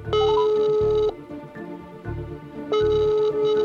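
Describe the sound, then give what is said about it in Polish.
A phone's ringback tone sounds twice: two loud, steady electronic buzzes, each about a second long, separated by a quiet pause, as a call to the mobile phone of Katarzyna Mieczkowska, director of the National Museum at the Castle, goes unanswered. “Na telefony nie odpowiadała.”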